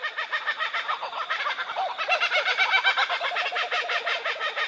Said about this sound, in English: In this group that we're listening to here, there'd probably be four or five birds. It's sort of letting other kookaburras in the area know that this is their territory. So they get together, they have a bit of a chat,